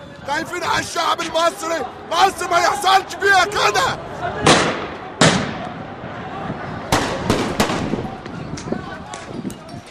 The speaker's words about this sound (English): We heard gunshots around the Ministry of Interior as people were apparently trying to storm the Ministry of Interior.